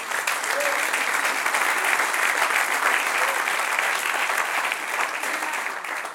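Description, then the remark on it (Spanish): An audience claps together in steady, sustained applause, a dense wash of many hands at a fairly loud level that holds throughout and tapers slightly at the end. “Dale un aplauso, Señor.”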